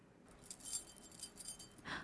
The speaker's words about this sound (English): The keys.